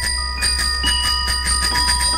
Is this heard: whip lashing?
no